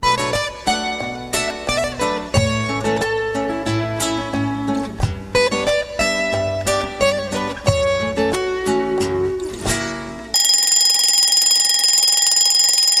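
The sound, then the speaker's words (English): A light tinkling melody plays for about ten seconds, then an alarm clock abruptly starts ringing, a loud, steady, continuous buzzing ring that carries on to the end. “Rang the alarm, and Mother Rabbit got up to prepare the chocolate.”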